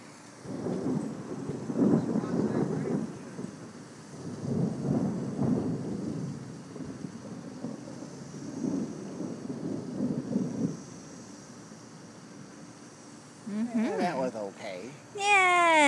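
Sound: thunderstorm with rain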